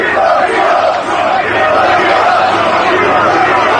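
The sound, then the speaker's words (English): A large crowd of hundreds of union construction workers on a sidewalk by a construction site in Midtown Manhattan near Trump Tower, New York, chants loudly and continuously, many voices blending into a dense, steady roar with rhythmic swells, and no single voice stands out. “So you can hear those chants, and then Brian and Ainsley, you guys can see the former president walking up and down here and shaking hands.”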